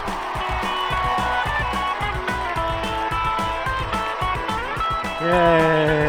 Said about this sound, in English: Yay. Hey, all right. Everybody calm down. Nothing like cheering to warm your soul, is there?